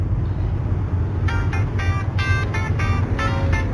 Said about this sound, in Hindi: बस आ ही रहा हूँ, 2 घंटे से ट्रैफिक में फंसा हूँ। कहाँ ट्रैफिक नहीं है, तुम कहाँ से आए हो? हाँ मुदर्रिस हाईवे। हाँ लेकिन नहीं नहीं, मैं सदर पर हूँ, यहाँ तो कयामत आई है, 8-10 गाड़ियाँ एक दूसरे से टकरा गई हैं